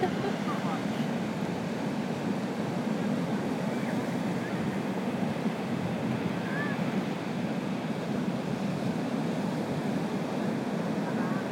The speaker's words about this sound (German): die Ostsee gibt alles. Ich weiß nicht, ob ihr es hört. Also wenn ihr ein lautes Rauschen hört, ein lautes, fast konstantes Rauschen, dann ist das der Atlantik. Nee, die Ostsee.